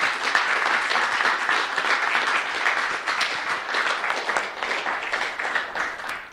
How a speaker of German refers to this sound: Ich glaube, wir machen das hier nochmal. Wenn, ja, doch, geht sich nochmal aus. Großen Applaus, danke sehr.